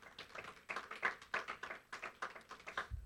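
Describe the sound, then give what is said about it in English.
Audience applause for a group of young people: a steady run of rhythmic hand claps, roughly three per second, moderately soft and even in loudness, with no voices over it. “You can give them a hand.”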